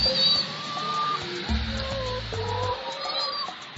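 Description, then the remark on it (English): A flock of chickens clucks steadily, overlapping calls rising and falling over a low rumbling background, with no voices present. “These chickens are 20 eggs a day.”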